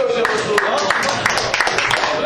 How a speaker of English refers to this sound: So let's make them feel welcome. Go, let's give them a big clap.